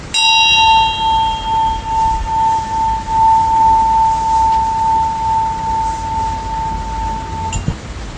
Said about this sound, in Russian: Начинаем и заканчиваем со звуком колокольчика.